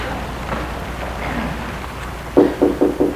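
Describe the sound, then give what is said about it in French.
At night, a man knocks four quick, evenly spaced times on the wooden door of a guard's cabin at the entrance of a fenced construction site, ringing out clearly near the end, over a steady rain-like hiss that fills the quieter opening. “Il frappe à une porte de bois.”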